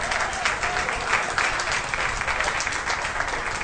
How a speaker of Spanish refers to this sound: Los concejales que estén por la afirmativa, aprobado por unanimidad el proyecto de ordenanza 16-16. Aplaudan ahora. ¡Tantos aplausos!